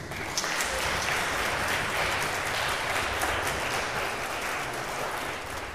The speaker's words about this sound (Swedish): En applåd till.